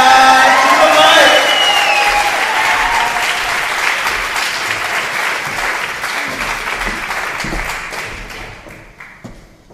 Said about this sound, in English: The one who you've been saving all your applause for, blow it up, applaud right now as I say